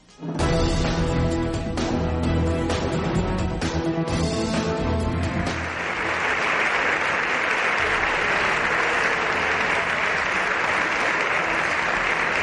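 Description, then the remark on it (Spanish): Sustained, loud applause fills the chamber of Spain's Congreso de los Diputados, a dense crackle of many hands clapping as Sánchez applauds himself along with those around him; it swells after a few seconds of tonal sound and carries on steadily to the end. “Sí, los aplausos regresaron ayer al Congreso de los Diputados, aunque les parezca mentira.”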